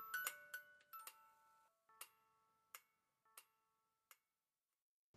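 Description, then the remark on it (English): A toy teaching clock, a type first developed in the 1960s and designed to teach concepts about clocks and time, ticks with sharp, evenly spaced clicks while a bright, music-box-like melody of chiming tones rings out, clear, with no voices. “they were designed to teach you several important concepts around clocks and time, all the while playing the famous song by Mr.”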